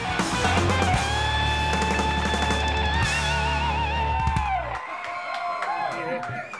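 A bar crowd cheers and whoops loudly over a rock band's sustained final chord at the end of its set; the music cuts off, and the cheering and shouting carry on a little more softly afterward.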